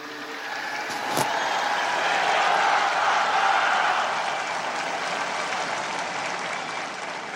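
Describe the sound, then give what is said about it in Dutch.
A large crowd in St. Peter's Square claps and cheers as the Pope greets them, a dense wash of applause swelling in the first few seconds and then holding at a broad, even roar, with a single sharp click near the start. “En zo begroette de paus nog de menigte op het Sint-Pietersplein. U kon het horen.”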